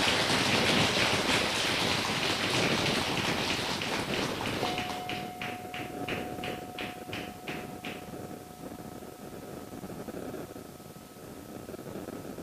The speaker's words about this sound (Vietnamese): Để cho một tràng vỗ tay thật lớn để thể hiện sự cam kết này.